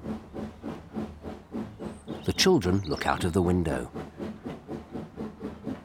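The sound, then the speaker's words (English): A steam train chuffs slowly down the track in a steady, even rhythm of hissing puffs, moderately loud, while someone speaks briefly over the puffing midway through. “The train puffs slowly down the track.”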